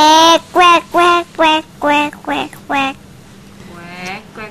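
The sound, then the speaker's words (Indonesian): A person mimics a duck, giving about seven quick, nasal quacks in a steady run, loud, followed by a softer drawn-out call at the end. “Bebek. Bunyinya gimana?”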